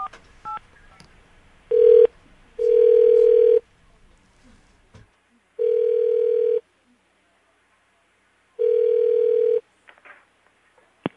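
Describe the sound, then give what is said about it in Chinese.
A steady telephone dial tone, heard while placing a call to the caller's mother, sounds in four loud, clear bursts of about a second each, separated by silent pauses, after a few faint clicks of dialing at the start. “好，打给妈妈。”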